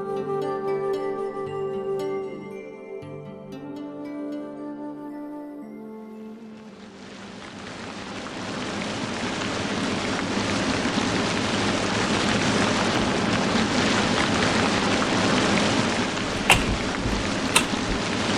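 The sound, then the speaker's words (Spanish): A few seconds of soft tonal music give way to a steady, dense hiss of heavy rain that continues to the end, with a couple of sharp taps near the close. “¿Cómo llueve? Sí, por eso no me puedo ir a mi casa.”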